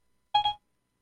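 A short two-note electronic chime from a phone's Siri voice assistant, accidentally triggered by speech, bright and tonal, rising quickly and fading within a quarter second. No talking around it.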